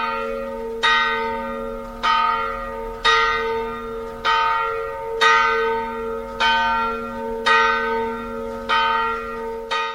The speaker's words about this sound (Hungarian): A nagyobbik harang pedig az 1930-as évekből való. Elvitték ugyanis az első világháborúba az elődjét, és akkor öntötték ezt a harangot.